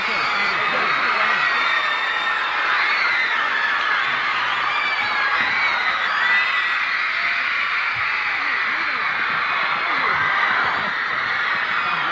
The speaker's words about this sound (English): But this, I never heard or saw such bedlam in my life. Yeah. Now, when they're finished, the screams keep going on.